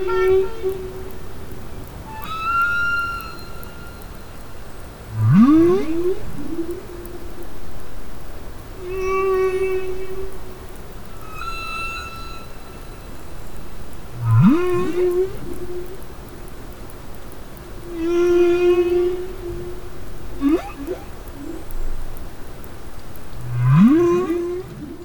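Humpback whale song recorded underwater by Monterey Bay Aquarium Research Institute hydrophones: a repeating cycle of sweeping upward moans, sustained tonal cries and higher whistles, several phrases over a steady background hiss, with no voices.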